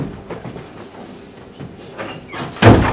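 A door shuts with a hard slam near the end, one loud thud after a couple of seconds of quieter rattling and shuffling.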